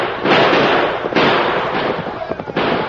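Three loud gunshots, fired from horseback during a chase, crack out roughly a second apart, each a sharp burst trailing into rough noise, over a steady clattering, rumbling background without pause.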